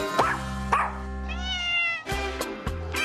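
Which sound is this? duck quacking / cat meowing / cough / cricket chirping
cat meowing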